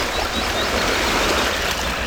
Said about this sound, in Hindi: मंदार मुनि, जी हाँ, बंगाल का पर्यटन स्थल, समंदर का किनारा, उठती लहरों की मनोरम आवाज।